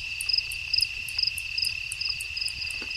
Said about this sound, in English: Did you catch that clicking sound? That's a spotted bat.